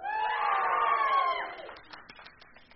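An audience, on a count of three, erupts in loud cheering, whooping and hollering for about a second and a half, then the voices fade as scattered hand claps continue.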